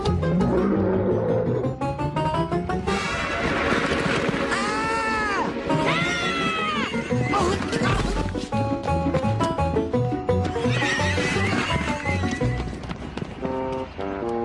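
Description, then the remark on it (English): A steam-powered mechanical horse lets out loud, wavering neighs in the middle of a dense, clattering din, with rhythmic hoof-like clopping and a heavy, roaring background throughout. “Now watch this! Cue the steam deed.”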